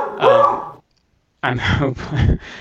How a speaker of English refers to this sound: That is my beagle barking in the background there.